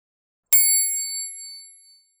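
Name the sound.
page-turn bell ding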